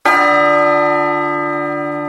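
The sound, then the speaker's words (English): A single loud strike of a great, deep cathedral bell striking three, its rich layered tones ringing out and slowly fading, with no voices. “But none came, until the great cathedral bell struck three.”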